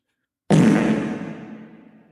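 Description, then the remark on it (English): A single loud, raspy fart sound effect starts abruptly after a brief silence, then rumbles on for under two seconds and slowly fades out. No one speaks. “Oh, the fart sound? Yeah. I'll insert it in editing.”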